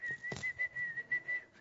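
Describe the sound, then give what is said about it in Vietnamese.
Someone whistles an imitation of a caged bird's song: a run of about six short, steady, high-pitched notes in a quick, slightly uneven rhythm, with a brief breathy burst near the start. “Thành con chim nó hót hót hót như vậy thì ông Bồ Đề Đạt Ma tai ông nghe ngay tức.”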